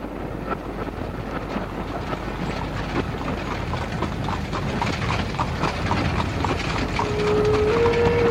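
animal, horse hooves clip-clopping

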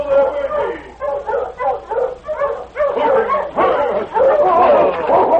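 animal, husky sled dogs barking

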